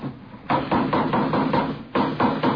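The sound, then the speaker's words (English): Steady hammering, about eight or nine sharp blows struck at an even, quick pace, fairly loud, as someone builds a wooden coaster cart, with no one talking. “Say, would you hand me that hammer there, officer?”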